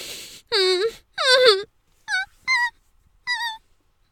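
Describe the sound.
A muffled voice lets out five whimpering moans, made with a penis in the mouth: two longer, wavering ones followed by three short, high-pitched whimpers with brief silences between them.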